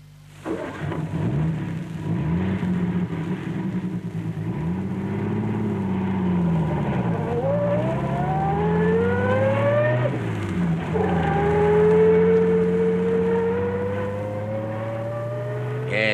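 A car engine runs steadily and loud, its pitch rising and falling as it revs up through gears, with rising harmonic sweeps around the middle and again near the end.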